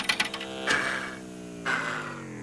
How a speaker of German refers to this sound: Juli ging zu unserem Navigator und tippte seine Frage in die Tastatur. Aber die Kompassnadel blieb bewegungslos stehen.